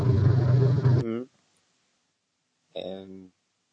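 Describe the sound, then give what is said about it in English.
A lawn tractor engine at a window roars loudly as a dense, rumbling drone for about a second, then cuts off abruptly. A voice is heard briefly afterward, followed by a pause and another short burst of voice. “You'll have to talk for a minute because the lawn tractor, I think, just came to my window.”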